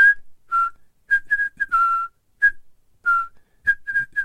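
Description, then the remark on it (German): Dr. Lecter whistles a bright, bouncy, cheerful little melody, short notes in quick bursts with brief pauses between phrases, no talking. “Dr. Lecter pfiff ein fröhliches Liedchen”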